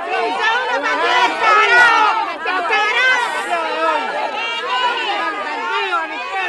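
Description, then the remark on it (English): A crowd in Cuba shouting together, chanting "Fidel, Fidel," many overlapping voices forming a loud, dense and steady roar that runs throughout without a break, while plainclothes government agents direct the crowd. “chanting, "Fidel, Fidel."”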